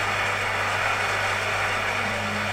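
A coffee maker brewing, giving off a steady, continuous hiss and whir over a low electrical hum, unchanging for the whole stretch with no voices.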